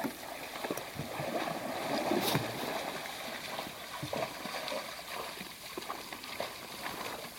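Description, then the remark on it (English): A mother moose and her two calves wade through shallow, grassy water, with steady sloshing and irregular splashes at close range against a constant wash of outdoor background noise. “So they're plodding through the water.”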